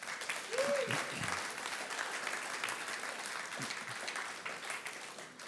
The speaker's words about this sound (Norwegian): Her, og jeg så takknemlig for lovsangerne våre, og gi dem en skikkelig varm applaus, dere.